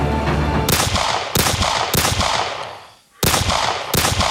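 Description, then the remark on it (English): Loud gunshot blasts from a single sample played through a randomizer plugin fire in an irregular sequence, each with a sharp crack and a dense, rumbling tail. The shots briefly die away to near silence before resuming. “I'll fast forward this a bit because gunshots machine are probably not what we're looking at.”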